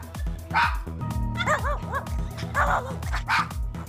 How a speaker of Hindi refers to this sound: ये आवाजें कुत्ते अपने लिए बनाए गए सिनेमा में फिल्म देखते हुए निकाल रहे हैं।